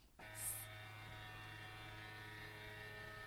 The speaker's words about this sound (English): Okay, that was, if you can hear that song, it was just my printer. I'm sitting right by my printer